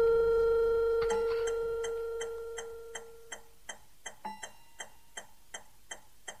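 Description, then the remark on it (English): A clock ticks in a steady, even rhythm, its crisp clicks growing more distinct as a sustained electronic tone at the start fades away. “I spend most of the day pacing my study, staring at the clock.”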